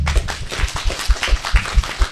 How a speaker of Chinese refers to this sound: 哇，感谢大家热烈的掌声啊！